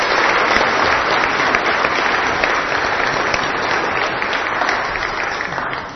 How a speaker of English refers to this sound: Let's give all the dads a round of applause.